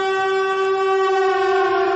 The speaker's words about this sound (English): Ladies and gentlemen, you hear the siren. We are officially declaring this a win or go home game for Close But No Jamar.